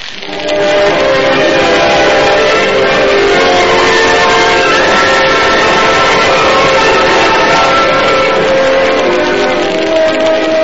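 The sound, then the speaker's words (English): A railroad train runs steadily and loudly, its whistle holding sustained tones over the rumble of the cars for the whole stretch, with no voices. “But, Molly, we, to get there, we'll have to take a railroad train.”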